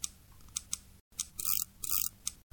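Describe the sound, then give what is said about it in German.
A paper clip, bent like a key, is turned back and forth inside a door lock: a few sharp metallic clicks, then longer rasping scrapes back and forth, with no voices. “Er verbog die Büroklammer, so wie ein Schlüssel, und steckte sie in das Schloss. Dann drehte er die Büroklammer hin und her.”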